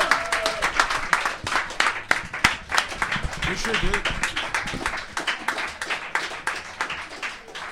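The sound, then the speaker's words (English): Dense, steady applause from an audience, many hands clapping at once with sharp overlapping slaps across the whole clip, plus some cheering voices mixed into the clatter. “Clap it up”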